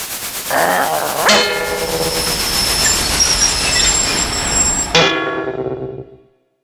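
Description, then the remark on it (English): A train brakes hard, its loud rumble overlaid by a sustained high-pitched wheel squeal that holds for several seconds before the noise cuts off and fades away. “He can stop a train with one hand!”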